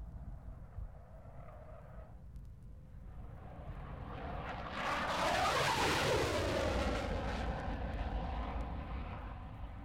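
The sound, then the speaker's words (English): A Lightning jet fighter roars past with its reheat (afterburner) lit, a thunderous, crackling blast that swells to a peak with a sweeping pitch change, then rumbles on loudly with no voices. “Now this absolutely thunderous and ghastly and hair-raising noise that you're hearing now is in fact a lightning.”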